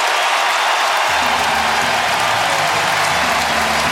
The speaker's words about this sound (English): The Giants take the lead. And listen to this crowd.